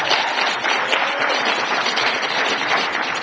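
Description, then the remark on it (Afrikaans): Steady, dense applause from a crowd, many hands clapping at once in a continuous bright wash of sound that holds an even loudness throughout, given as a hand clap for the Lord. “Nou maar gee vir die Here 'n hande klap.”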